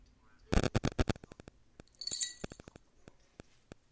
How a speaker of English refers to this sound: That's her freedom bell that she has on.